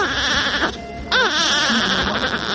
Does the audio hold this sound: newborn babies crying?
yes